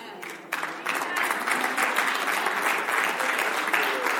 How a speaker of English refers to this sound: Why wasn't that clap louder than the other? Like, yes, Lord!